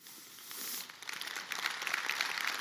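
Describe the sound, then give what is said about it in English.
An audience applauds, a dense crackling wash of many hands clapping that grows fuller and more textured after the first second and carries on steadily, with no voices. “They're clapping for y'all, not me.”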